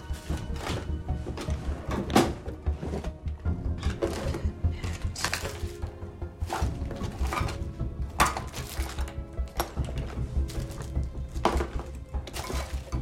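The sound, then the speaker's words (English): Desk drawers slide open and shut again and again as a woman searches through them. Each is followed by a thump and a rattle of loose contents shifting inside, in an uneven rhythm with no voices. “She looks in the desk drawers.”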